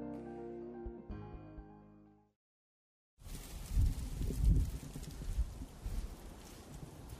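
A short stretch of sustained tonal music fades to a brief silence, then strong wind gusts in outdoors on a sunny, windy day at Carpenter and 18th Street in Pilsen, Chicago, roaring and buffeting the microphone with low rumbling bursts that rise and fall.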